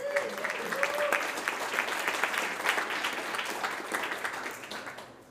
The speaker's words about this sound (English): So, quick welcome round of applause